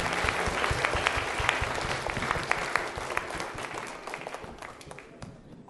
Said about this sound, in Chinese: 那今天我们非常的高兴哈，你看见哇，这么多一群小朋友来到我们的中间，啊，所以我们啊，他们要跟我们一起来赞美神，一起来荣耀神。好，上面我们请他们上来好不好？我们掌声欢迎他们。